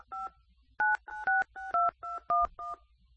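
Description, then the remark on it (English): A quick run of telephone keypad touch tones as someone types on a phone keypad during a call: about eight short two-pitch beeps in an uneven rhythm, each clear and fairly loud with brief gaps between, and no voices. “I'm typing it and you should be getting it.”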